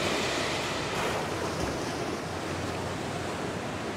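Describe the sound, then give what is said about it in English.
Ocean waves breaking at a surf peak, a steady, broad wash of white noise, a continuous roar that swells slightly midway, with some wind rumble and no voices. “This is Occhi's peak right here, man, with the man Occhi. That's the first wave.”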